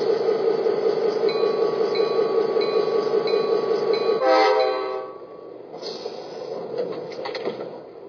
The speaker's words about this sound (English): Track 1, Port Jefferson Train Number 668.